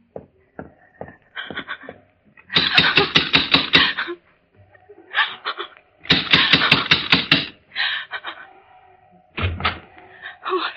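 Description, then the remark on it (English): A car driven by a young woman rushes through a village with bursts of rough, rattling engine noise that surge and drop several times, ending in a short, harsh burst as it brakes to a halt before the home of Dr. Samuel Stewart. “A car comes speeding through the village, and with a squeal of its brakes, comes to a stop”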